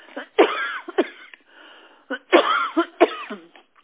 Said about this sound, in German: Da muss sie sogar husten, also wirklich.